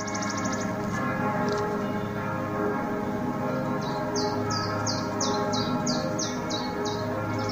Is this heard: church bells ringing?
yes